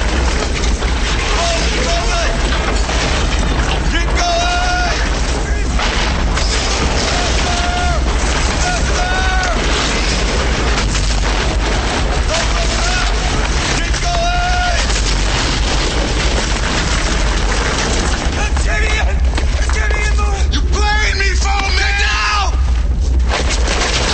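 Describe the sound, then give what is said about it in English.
An air shaft in a tunnel explodes into a huge fireball, a sustained, dense roar of fire and rumbling that stays loud for the whole stretch, with voices crying out over the din. “The air shaft explodes. A huge fireball rolls through.”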